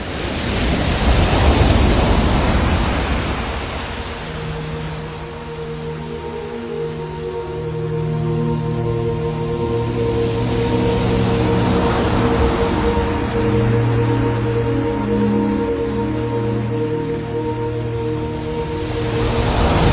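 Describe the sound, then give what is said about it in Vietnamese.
Roaring surf and gusting wind over a wide sea fill the scene with a loud, continuous wash of noise that swells and surges, while a low sustained drone hums steadily underneath. “Khác với lần trước, lần này chim bay qua rừng núi thì cây cối ngã nghiêng, chim bay qua biển rộng thì sóng gió thét gào như muốn nhận chìm tất cả.”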